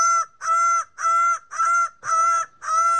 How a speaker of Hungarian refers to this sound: Az én kedvencem egyébként az a felvétel, aminek Sir David Attenborough többször is nekifutott. A paradicsom madarat akarta bemutatni, csak hogy ehhez a madárnak is volt egy-két szava.